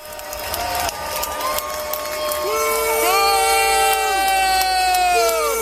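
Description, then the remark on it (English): A large stadium crowd at a Mariners game boos Fauci as he throws out the first pitch, loudly and continuously, many overlapping voices holding long, wavering tones that swell and slide in pitch, growing fuller after the first few seconds. “so I think one of those booing voices was probably”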